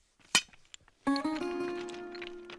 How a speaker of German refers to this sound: Hier brechen wir die manuell noch mit einer Eisenstange und einem dicken Hammer. Reißen wir die aus dem Berg und dann mit einem Meißel und mit dem Hammer brechen wir sie auf und bereiten sie für den Bau vor.